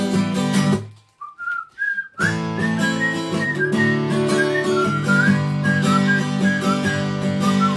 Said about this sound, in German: Alter, was für eine Pfeiferei, ey. Ich bin gerade so, also ich bin echt, wie ihr den Pfeifeinsatz auch da drin hattet.